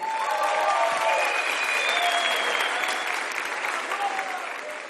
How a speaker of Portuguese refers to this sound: Aplauda